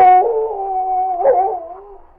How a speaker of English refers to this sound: The sergeant and Bud could hear a wolf or a dog howling as they started through the forest.